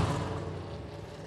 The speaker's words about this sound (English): As you heard there, the engines have fired, and in fact we are running for this 20-minute session.